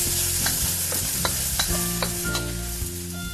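Vegetables stir-fry in a pan being shaken, a steady close sizzle broken by scattered clinks and scrapes of metal, with a low hum underneath and no talking.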